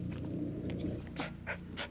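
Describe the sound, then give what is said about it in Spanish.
A dog named Braigo whimpers and cries outside in short, breathy bursts over a low rumbling background, the whines thin and high-pitched and somewhat muffled. “Y no quiso voltear, porque escuchaba dos cosas. A su perro Braigo, nuevamente llorando afuera.”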